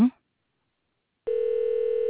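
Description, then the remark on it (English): A telephone ringback tone on an unanswered call, a steady electronic hum with a slight pulsing wobble, starts after a short silence and holds for about a second. A brief voice fragment comes just before it. “All right, it's still ringing.”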